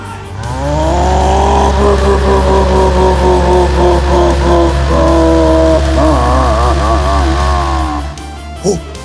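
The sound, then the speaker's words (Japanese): A racing car engine roars loudly and continuously during a race, its pitch climbing and wavering as it revs hard for several seconds before cutting off abruptly. “本当だ、あの不気味な車は一体。”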